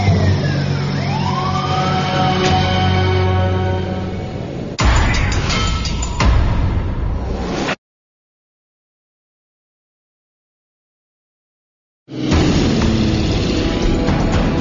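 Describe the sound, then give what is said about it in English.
Sirens of emergency vehicles, including fire trucks, dispatched by Yellowknife Tower for a plane coming in to land on one engine, wail over a loud, rumbling engine, their pitch sweeping up and down. The sound cuts out to silence for several seconds, then heavy engine noise returns. “The Yellowknife Tower dispatches emergency vehicles just in case.”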